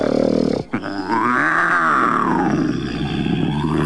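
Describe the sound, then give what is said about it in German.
A wolf lying in bed snores loudly with a deep, rasping, growl-like rumble. After a brief break, one long drawn-out snore rises and falls in pitch, and another begins to swell at the end. “Dann legte er sich wieder hin und fing an zu schnarchen, dass man es bis in den Wald hinein hörte.”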